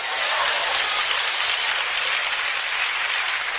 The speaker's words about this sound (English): Oh, y'all was cheering me on.